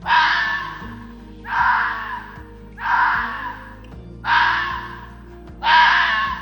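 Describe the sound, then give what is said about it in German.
A red fox, a wild animal of South Tyrol, barks five times, each call a harsh, raspy burst about a second long, spaced evenly with short pauses, loud and alone with no voices. “Und so horcht sich der Fuchs an.”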